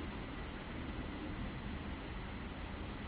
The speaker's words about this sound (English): Yeah, but wait, you hear the train going by, I guess, now. Okay, it's right across the road, the Radharani Express.